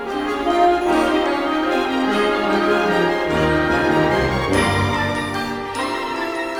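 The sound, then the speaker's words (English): A recorded concert performance of Carol of the Bells from the 2022 season plays steadily, with dense layered harmonies, shimmering bell-like high tones, and a shifting low register partway through. There is no talking. “So let's play a little bit more music here. So this one, this is from the 2022 season, Carol of the Bells.”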